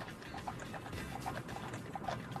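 Steady clip-clop of a single horse's hooves pulling a wooden wagon, fairly soft and somewhat distant, with a regular plodding rhythm over a low rumbling background.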